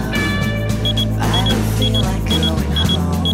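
A digital alarm clock reading 7:59 beeps in quick high-pitched pairs, repeating at a steady rhythm about every three-quarters of a second over a constant low hum, until a man in bed turns off the alarm.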